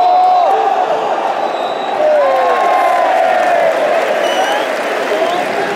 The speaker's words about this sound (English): That's a cheer for Burris throwing. About 7 minutes in now. Still 1-0 Borough.